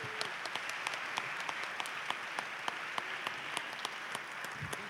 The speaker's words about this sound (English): At this moment in time, we would like us to all the members, organizing committee in terms of E5, if you can please stand up. Round of applause.